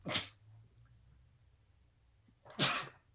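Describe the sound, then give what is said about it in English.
Two sharp, explosive sneezes, one right at the start and another about two and a half seconds later, fairly loud with quiet room tone between them and no talking. “I'll also tell you that I think I'm about to sneeze any second”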